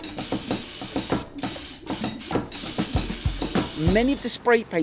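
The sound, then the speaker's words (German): Steady hissing of a spray paint can as Banksy sprays black paint over a stencil taped to a wall, in bursts with brief pauses between passes and a faint voice or rattle underneath. “Er sprayt über die Schablone. Erstmal mit Schwarz.”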